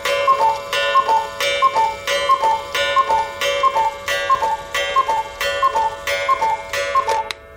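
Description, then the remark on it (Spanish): A cuckoo clock striking 12 noon sounds a steady series of two-note calls, around a dozen in even rhythm, each with a mechanical click, loud and clear with no talking. “Correr un poquito la aguja. ¿La aguja? A ver qué hace el reloj cucú.”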